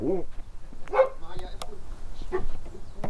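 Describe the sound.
A female dog barks a few times in short, separate bursts at a property in a village near Wiesbaden, Germany, with faint background voices and noise around the barks.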